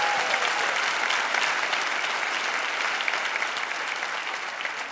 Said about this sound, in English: Now you can cheer. Now you can cheer.